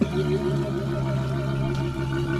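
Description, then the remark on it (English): A walrus from the Northwest gives a sustained, low, buzzing vocalization with a rich harmonic drone that holds steady and fairly loud for a couple of seconds, with no talking. “KNKX comes from the Northwest, like this walrus.”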